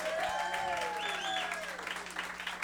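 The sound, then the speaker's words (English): A crowd claps steadily for a few seconds in a round of applause for the night's server, a dense patter of many hands, with high whoops and a rising, falling whistle cutting through the applause. “Before we get into that, how about a round of applause for your server tonight, the one, the only,”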